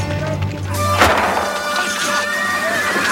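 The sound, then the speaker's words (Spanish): A horse whinnies as it throws its rider amid a chaotic action scene, with a sharp crashing impact about a third of the way in, followed by a strained, tonal cry over steady background commotion. “Un caballo descabalga a su jinete.”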